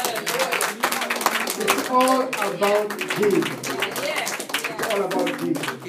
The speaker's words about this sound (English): Hallelujah. Praise God. Amen. Let's clap to Jesus.